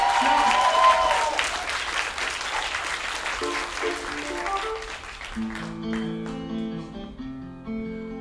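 A crowd applauds loudly, a dense wash of clapping and cheering that fades after about five seconds as sustained keyboard chords take over.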